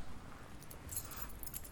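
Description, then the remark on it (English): A quiet jingle of keys: light metallic clinks scattered over about a second and a half, with no voices, just a faint low rumble underneath. “I can't find the keys.”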